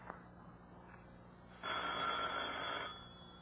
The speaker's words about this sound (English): Oh, will that phone ever stop ringing so we can get on with this?